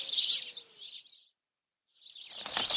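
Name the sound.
birds chirping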